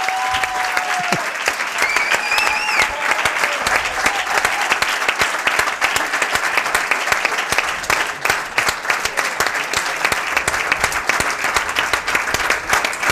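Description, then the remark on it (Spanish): A large audience breaks into sustained, dense applause for footballers Carlos Soler and Pablo Marín, filling the whole stretch, loud, with a few brief whistles and faint cheers rising above the clapping near the start. “Así que para no hacerles esperar mucho, aplauso para Carlos Soler y para Pablo Marín.”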